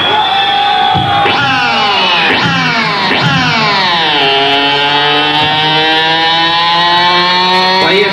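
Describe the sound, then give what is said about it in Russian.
A motorcycle engine is started and revs up sharply three times in quick succession, then its pitch drops and it settles into a steady, loud, buzzing run. “Заводи мотор”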